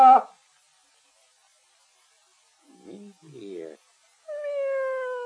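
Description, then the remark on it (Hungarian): A cat meows in short bursts separated by pauses, ending with a long, drawn-out, steady meow. The sound is moderately loud. “Menj innen, te buta kis cica!”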